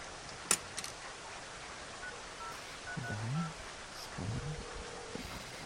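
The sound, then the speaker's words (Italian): A phone being dialed in a phone booth during rain, with a few short keypad beeps followed by a steady tone, all under a constant hiss of rain and a sharp knock near the start. “Una cabina. Ecco.”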